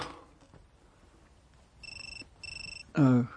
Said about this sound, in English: Shh. I'm calling my phone.